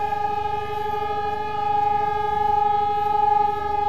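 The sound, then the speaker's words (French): A memorial siren sounds at noon a long, steady, unbroken tone at one pitch, loud and continuous, swelling slightly in volume, with no voices over it. “Il est midi, la deuxième émission commence au moment même où la sirène retentit.”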